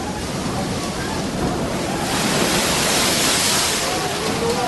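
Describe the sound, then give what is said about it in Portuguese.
Rough water surges and crashes steadily against the hull of a boat in the middle of a lake at night while wind blows against it, a dense, continuous rush that swells louder midway and stays full throughout. “E as ondas batiam com força no barco, porque o vento soprava contra ele.”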